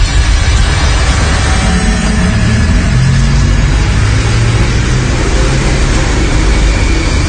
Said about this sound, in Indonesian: Lihat mukaku yang panik, Jihan pun segera melajukan mobil secepat mungkin. Melaju mengikuti jalan entah kemana.